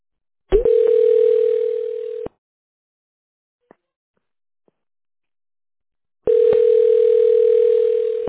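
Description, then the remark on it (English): A telephone ringback tone on a call to a business that is not picking up, with no hold music: two long, steady, mid-pitched buzzing rings, each about two seconds, separated by roughly four seconds of silence with a faint click. No one speaks. “There's no music this time. No music. It's just ringing.”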